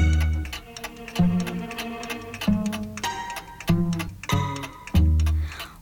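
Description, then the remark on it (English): A clock ticks steadily in a crisp, even rhythm, sharp clicks landing over a slow, sustained musical backing whose low notes shift every second or so. “The clock is ticking.”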